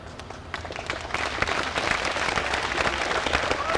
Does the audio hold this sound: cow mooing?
no